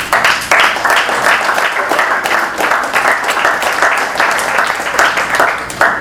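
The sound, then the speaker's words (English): An audience breaks into sustained applause as a clap offering to God, dense overlapping claps from many hands at steady loudness for several seconds, with faint voices mixed underneath. “And we give Him a clap offering.”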